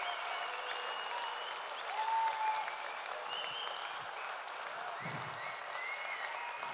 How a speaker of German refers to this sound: Und euer Applaus war sehr verhalten.